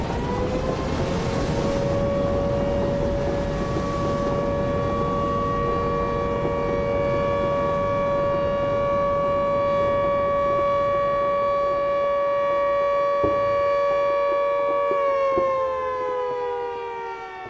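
A fire station siren in Constitución marks noon, sounding with a loud, steady, sustained wail over a rumble of background noise, holding one pitch for a long stretch before sliding down near the end. No one speaks.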